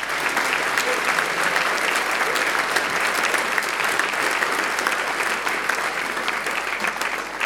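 Steady, sustained applause from an audience fills the whole stretch, dense and loud with many hands clapping at once and no pauses or voices breaking through.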